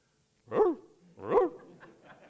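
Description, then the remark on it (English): A dog carrying a purse in its mouth lets out two fairly loud, whiny barks about a second apart, each bending in pitch, followed by a faint trailing whimper. “Suddenly, a dog approached him, a purse in its mouth.”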